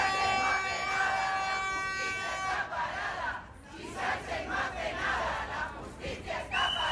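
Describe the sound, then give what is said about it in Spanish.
A large crowd of justice administration staff, on strike for over a month, shouts protest chants in loud, rhythmic bursts outside the courts at Plaza de Castilla, with a sustained horn-like tone blaring over the noise at first before the chanting takes over. “Gritos de protesta que no cesan.”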